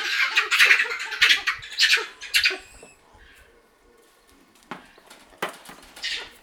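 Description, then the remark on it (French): A guinea fowl gives a rapid series of harsh, rasping alarm cackles, loud, in quick bursts that pause and then resume more sparsely. No one speaks. “Ils ont également appris à comprendre les cris d'alerte d'oiseaux comme la pintade.”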